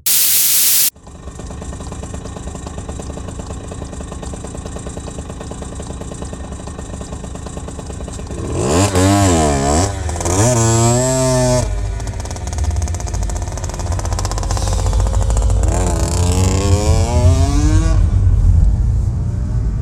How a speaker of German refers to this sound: Motorräder, ne? Und Mopeds. Das ist das einzige Geräusch, das ich noch schlimmer finde als bellende Köter.